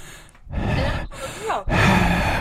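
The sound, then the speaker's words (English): A heavy-breathing sound effect: three long, loud, raspy breaths in quick succession, each a noisy rush of air with a faint voiced groan, like a creepy stalker, and no talking. “can we add …'s heavy breathing sound?”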